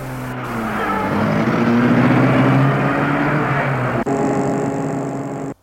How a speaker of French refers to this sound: Elle lui dit « Boulevard Haussmann ». Et le taxi met en route sa voiture.